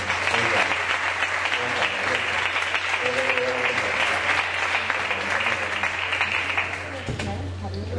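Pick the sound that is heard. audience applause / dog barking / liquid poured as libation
audience applause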